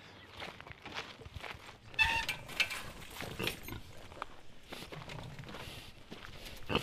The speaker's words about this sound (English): We are walking towards a paddock and we're passing some more of your saddlebacks and they are munching away at something.